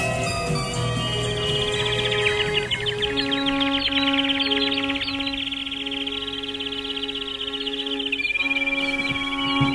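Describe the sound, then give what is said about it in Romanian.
Several songbirds chirp and trill at once in a shop that sells birds and musical instruments, in rapid overlapping phrases, a dense continuous chorus with a steady high whistling tone running underneath and no voices. “Păsări și instrumente muzicale. Dați-mi voi, păsări cântătoare.”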